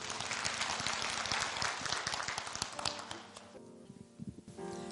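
An audience bursts into sustained applause, many hands clapping in a dense, crackling wash that stays loud, then thins briefly near the end before swelling again.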